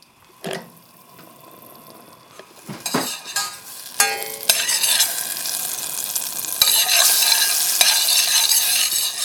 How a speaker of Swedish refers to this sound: Ja, nu ska vi då fräsa på löken lite grann. Men den ska knappt få färg. Den ska bara bli liksom genomskinlig och mjuk. Så vi kör i en klick smör här i kastrullen.